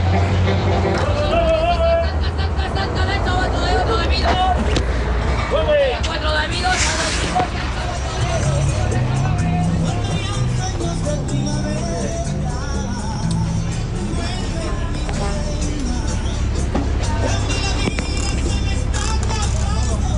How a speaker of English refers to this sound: For these journeys, we're taking the chicken bus. If you're unfamiliar with the concept of the chicken bus, they are basically retired yellow school buses from the United States.